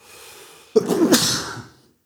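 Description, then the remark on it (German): A single loud sneeze bursts out after a soft, brief intake of breath, then trails off quickly into silence. No one speaks. “Pass auf, wer dreimal niest, ist doof.”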